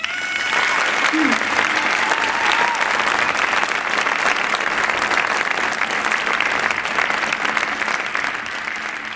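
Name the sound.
warm audience applause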